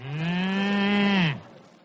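A single long, steady moo from a musical cow used as a 9 o'clock time signal on the radio, loud, holding one low pitch for over a second before sliding down and cutting off, with no voices around it.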